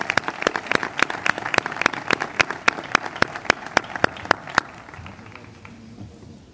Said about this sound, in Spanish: y un aplauso para honrar su presencia.